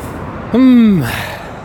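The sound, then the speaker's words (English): A voice imitates a car driving past, making a short hummed whoosh whose pitch swoops downward like a Doppler shift, followed by a soft, steady hiss of road noise. “See, compare it to that car that just went by.”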